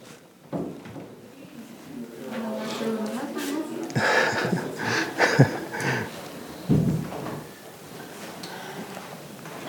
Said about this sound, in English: Sir, just could you help with the door, please?